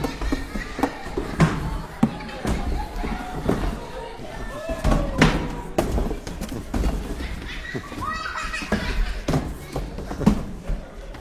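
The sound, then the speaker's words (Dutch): Olifant, an elephant, strikes a wall with a hammer as hard as he can: heavy blows pound repeatedly against the wall, a series of loud, sharp thuds at an uneven pace, with voices and other noise mixed in between the strikes. “Snel haalde Olifant zijn hamer uit de schuur en sloeg zo hard als hij kan tegen de muur.”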